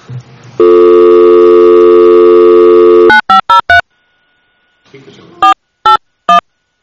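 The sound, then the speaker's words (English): A steady dial tone hums for a few seconds, then short bursts of touch-tone dialing beep in quick clusters, followed by a pause and three more spaced keypad tones, as a phone call is placed to Randy for a legislative update. “We are going to get, hopefully, Randy on the phone.”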